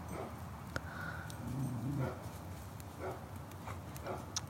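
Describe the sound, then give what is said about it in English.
A neighbor's dog barks faintly, a few scattered yaps over a steady low outdoor rumble, with a soft whimper-like tone mid-clip. “The neighbor's dog's barking. It's making mine upset.”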